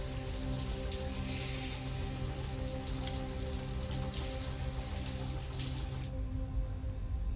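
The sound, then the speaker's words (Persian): A shower runs steadily, water hissing and pattering nonstop onto a hard surface in a bathroom with dirty, old walls as someone puts first their hands, then their head under the water; the bright spray cuts off near the end, leaving a low background hum. “هانیوا میره زیر دوش آب.”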